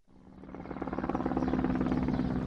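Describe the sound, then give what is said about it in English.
Helicopters buzz overhead in Port Said, Egypt, as residents bury seven people killed in violence: a steady, loud rhythmic thumping of rotor blades with a droning engine hum that swells in, with no voices. “Helicopters buzzed overhead as residents of Port Said buried seven more people killed in violence here.”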